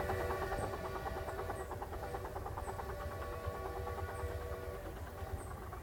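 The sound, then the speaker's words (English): A passing train rumbles steadily, squeaking and blowing, with a dense metallic clatter and squealing, high-pitched tones over a heavy low-end roar, no voices present. “right when I need it, right when the train just went by again, it's squeaking, it's blowing.”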